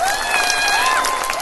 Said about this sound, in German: Vielen Dank für den Applaus. Der war ziemlich schön, aber der war noch, glaube ich, noch nicht so schön, wie ihr wirklich klatschen könnt, wenn ihr so richtig Lust auf Klatschen habt. Klatscht mal so laut ihr könnt.